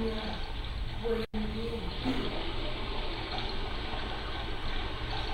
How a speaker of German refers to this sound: Hörst du den Gesang der Brandung? Das Rauschen der Wellen? Ja, ganz deutlich.